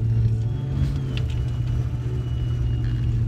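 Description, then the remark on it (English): A car engine rumbles steadily with a deep, low drone and a faint whir, holding at an even loudness as the car drives off on its way to a horse ranch in Richland Farms, home to the Compton Cowboys. No one speaks. “He takes a giant puff, releases the smoke in the air, and then drives off.”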